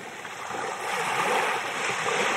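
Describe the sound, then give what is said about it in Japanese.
Gentle waves lap and wash onto the sandy shore of Yonaha Maehama Beach, with clear, transparent water, in a steady, hissing rush that swells slightly midway, moderately quiet, with no voices. “多分すぐそこまで波打ち際に行きますと、ちっちゃい魚がねスッスッスッと泳いでくるような、そんな与那覇前浜ビーチに私おります。”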